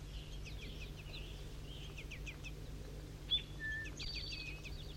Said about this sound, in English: Even now begging calls in the distance, I'm close to 4-3, behind the Lornet site in the bushes. Juvenile begging calls.